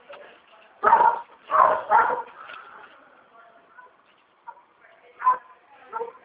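The speaker's own pet dog barks in sharp, loud bursts, three close together near the start, then a few quieter, spaced-out barks follow after a short lull.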